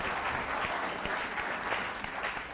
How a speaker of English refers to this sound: Why don't you guys, let's give them a big clap.